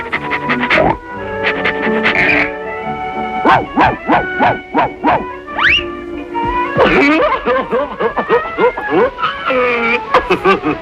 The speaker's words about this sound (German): Hund Pluto dann noch Radau auf der Bühne macht